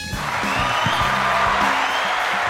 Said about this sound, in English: Yes. Sean gets the applause. Thank you.